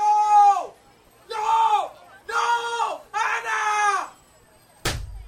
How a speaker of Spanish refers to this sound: 8 de septiembre de 1985. En una calle del Soho de Nueva York, caen gritos del cielo.